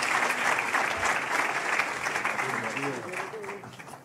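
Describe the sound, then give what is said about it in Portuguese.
An audience applauds steadily and enthusiastically for a couple arriving onstage, a dense wash of clapping that holds for several seconds, with a voice or cheer rising over it toward the end. “Mais um aplauso aqui para este casal fantástico que chega agora ao palco.”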